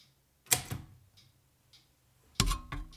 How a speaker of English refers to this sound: Might also be that this typewriter just doesn't like to write or type the word hype. Oh well, it has to.